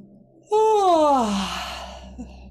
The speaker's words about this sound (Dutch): Oh, misschien moet je gapen.